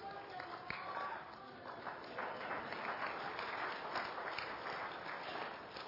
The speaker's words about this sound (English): Who are you clapping for, her or me?